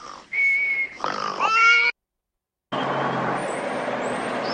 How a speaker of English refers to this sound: You do snore all night long.